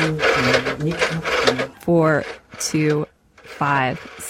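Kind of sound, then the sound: household object, dialing a rotary phone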